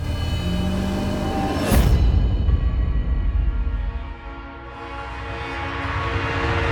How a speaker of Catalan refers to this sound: L'enquadrament ressegueix un carril a tota velocitat. El tren arriba a l'estació.